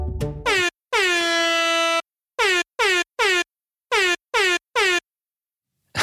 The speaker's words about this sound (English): Telegrams are transmitted using Morse code. Because I don't have a telegraph with which to provide examples, I've instead here chosen to use this air horn.